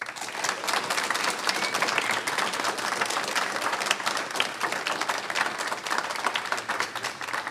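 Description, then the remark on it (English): An audience on The Thistle and Shamrock radio programme applauds a singer and a concertina player steadily, many hands clapping in a dense, crackling wash that holds at an even, fairly loud level throughout without fading or breaking. No one speaks over it. “I want to ask you to put your hands together once again”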